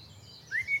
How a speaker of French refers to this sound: Dans un tilleul, un merle noir chantait. Et ce chant était si joli que la religieuse s'est approchée pour l'écouter.